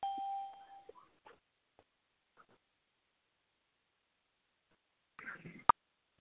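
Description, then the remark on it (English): A single electronic chime, like a conference call entry tone, sounds at the start and holds steady for about a second. Quiet gaps follow, then a brief rustle and a sharp click near the end. “Entry and exit tones are off.”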